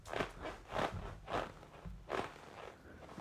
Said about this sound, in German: Das Kunstleder von meinem Sessel knarzt.